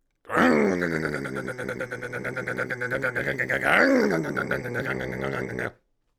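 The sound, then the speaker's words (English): A voice imitates boiling water with a steady, throaty gurgle, a rapid bubbling flutter over a low hum lasting about five seconds, briefly rising in pitch partway through before cutting off. “Water boiling.”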